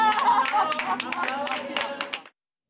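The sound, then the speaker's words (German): An audience applauding with a dense, steady patter of many hands clapping, voices murmuring underneath, cutting off abruptly after a couple of seconds. “Applaus für Herrn Sundermann.”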